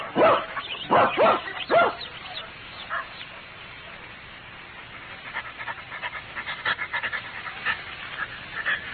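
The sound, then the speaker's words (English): A dog named Toby, in a Sherlock Holmes story, gives three loud barks in quick succession, then falls into steady, rapid panting that continues quietly for several seconds. “Leave the dog here and come up.”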